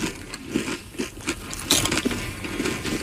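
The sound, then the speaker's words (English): Loud crunching of Doritos tortilla chips and candy eaten together in one bite, with a steady run of brittle snaps and crackles over about three seconds and no talking. “Let's see about this combo here. Very crunchy.”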